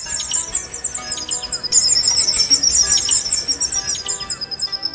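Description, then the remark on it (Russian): Possums calling back and forth to each other in rapid, high-pitched, bird-like chirps and twitters, overlapping continuously over a faint low background hum, steady throughout. “Вот такими, почти птичьими голосами поссумы перекрикиваются друг с другом.”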